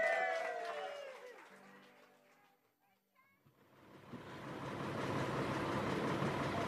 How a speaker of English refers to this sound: The bus to Knock is waiting outside the hotel.